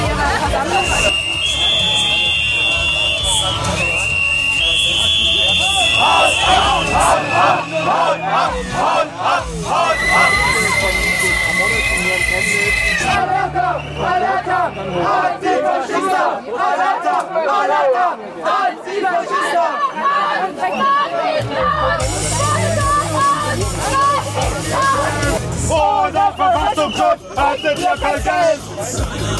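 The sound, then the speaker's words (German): Loud, continuous crowd noise from a counter-demonstration of a few hundred people against about 700 Nazis, after dark in the cold, with police placed in a corridor between them: overlapping voices and chatter, with occasional sustained tones and shouts rising above the babble. “Und auf der Gegendemo ein paar hundert Leute, weniger als die Nazis auf jeden Fall.”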